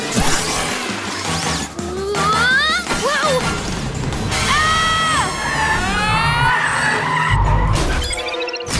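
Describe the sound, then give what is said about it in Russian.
A vehicle's tires squeal in several long, wavering high-pitched screeches over a busy, noisy background, followed by a heavy low crash and a quick burst of rattling clatter. “Вы разобьетесь!”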